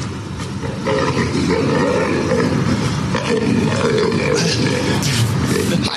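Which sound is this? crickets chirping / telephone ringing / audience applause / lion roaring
lion roaring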